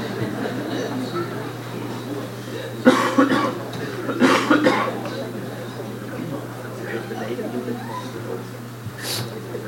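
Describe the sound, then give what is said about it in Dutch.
Someone blows their nose in two short, forceful honking bursts, a second apart, over a steady low electrical hum and a faint murmur of background noise. “Even mijn neus snuiten, hoor.”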